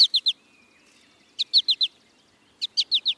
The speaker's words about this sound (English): American goldfinch males sing a bright, bubbly song and nearly always call in flight with a sweet four-syllable.